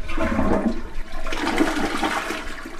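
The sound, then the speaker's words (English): A brand new, newly hooked-up toilet at the McFarland home gets its first flush, with a loud, steady rush of water that swirls and gurgles for a few seconds. The churning sound stays fairly constant throughout, with no talking. “Back at the McFarland home, their brand new toilet is hooked up, and the water is flowing. The honor of first flush goes to”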